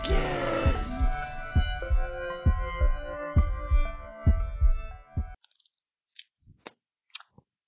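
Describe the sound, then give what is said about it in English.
A short musical jingle with a thumping beat ends abruptly, followed by a few wet, clicky chewing sounds as someone eats pizza, with scattered bites and no talking. “I'm eating I'm pizza. Chewing it.”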